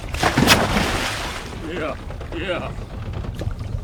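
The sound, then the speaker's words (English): A heavy splash of a diver wearing a mask, weight belt and oxygen tank jumping from a boat into muddy reservoir water comes near the start, followed by sloshing and a steady background rumble, with muffled voices talking faintly afterward. “puts on his mask, weight belt, and oxygen tank and jumps in.”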